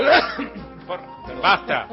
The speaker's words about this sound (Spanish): Vamos, no me bostece, dejen de bostezar, dejen de toser que me molesta, no puedo trabajar si tosen. Por favor, dejen de toser, porque si no, me pierdo el equilibrio mental.